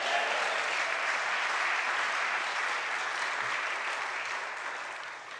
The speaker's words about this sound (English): Everybody clap your hands and say yes.